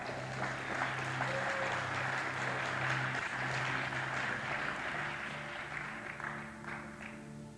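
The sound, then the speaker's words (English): A crowd claps to Jesus steadily and loudly for several seconds, the dense patter of many hands sustained throughout with a low hum of voices and background tones underneath. “Let's clap to Jesus for that.”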